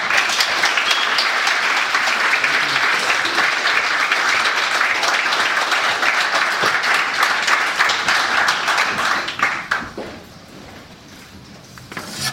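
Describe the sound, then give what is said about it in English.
A crowd applauds loudly and steadily with dense, rapid clapping for about ten seconds to welcome two authors, Danny Doyle and Terry Kelly, for a conversation. It then fades quickly into scattered claps and quiet murmuring. “Please give a huge round of applause to Danny Doyle and Terry Kelly.”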